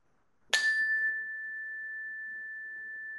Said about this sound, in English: And I'll ring the bell once more.